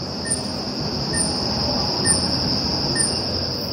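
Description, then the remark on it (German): An unidentified, never-seen bird gives a repetitive, irritating beeping call that at first was taken for a smoke detector: four short, high-pitched beeps at steady intervals, heard over a constant shrill whine and a rumbling background noise. “Genau, das war der nervige Vogel.”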